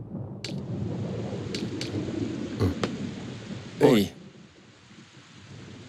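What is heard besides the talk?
rain starting to fall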